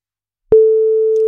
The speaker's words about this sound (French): Voilà, voici la première sonnerie. Deuxième sonnerie. Troisième sonnerie.